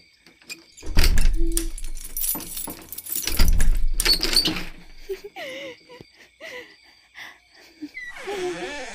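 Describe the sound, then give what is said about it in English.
Keys jangle and rattle in two bursts, with low thuds as a door is unlocked and opened, followed by a few soft vocal murmurs and breathy sounds. “You're gonna open the door, okay? Will you? Fine. I'll do it myself.”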